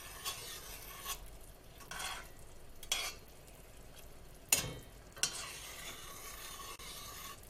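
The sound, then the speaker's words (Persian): A spoon now and then stirs through thick, bubbling jam in a pot, with pink food colouring and liquid glucose added, soft scraping strokes at an irregular pace and a low simmering sizzle underneath, moderately quiet, no voices. “گاهی هم میزنم.”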